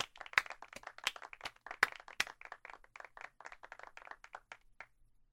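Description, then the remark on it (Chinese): A group of people clapping at a girls' school to welcome a new teacher, Mr. Shao: a burst of many sharp, overlapping claps that tapers off and ends after about five seconds, with no voices. “好了，下面让我们用掌声欢迎邵老师加入学校吧。”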